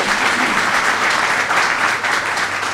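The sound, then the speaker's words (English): Sustained crowd applause for the board chair, a dense wash of many hands clapping at a steady loud level for the whole stretch, with no voices standing out above it. “Tricia Luciani, our board chair, let's give her a round of applause as well.”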